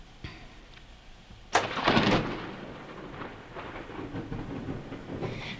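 A cassette recorder found under a bed rewinds its tape: a sudden clunk, then a steady whirring, rushing mechanical noise that holds for several seconds at moderate loudness, with no voices.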